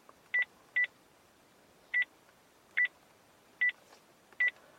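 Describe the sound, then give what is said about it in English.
A phone number being dialed on a landline to call an iPhone connected via Bluetooth to Sync: a series of short DTMF keypad tones, irregularly spaced, some in quick pairs, with no talking in between. “Okay, so I'm now actually going to dial my phone from my landline.”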